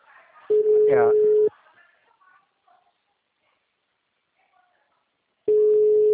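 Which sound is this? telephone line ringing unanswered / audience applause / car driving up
telephone line ringing unanswered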